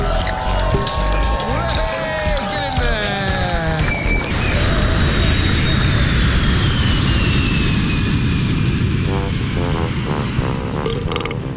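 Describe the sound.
A loud, steady engine roar fills an airplane cabin, with whining tones sliding upward early on and indistinct voices murmuring underneath.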